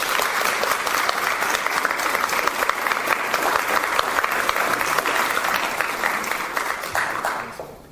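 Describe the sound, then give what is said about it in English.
A crowd claps steadily for several seconds for a speaker just called up, a dense, sustained wash of applause that fades out near the end. “I think she needs a round of applause.”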